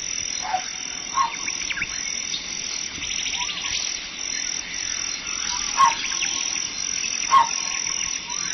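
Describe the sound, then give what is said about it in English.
A steady, high insect-like trill fills the background while a saw produces a handful of short, bird-like chirping calls at irregular intervals, giving a jungle-style effect with no talking. “I call this one I Saw It in the Jungle because the sound of that bird is done with a saw.”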